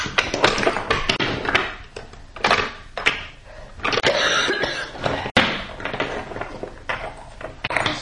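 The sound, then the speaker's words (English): Loud, irregular knocking on a door as Terrence knocks to wake up Douglas: a cluster of sharp raps that come in uneven bursts, with one especially hard bang partway through and a busy clatter between the hits. “He knocks at the door and Douglas comes bursting out.”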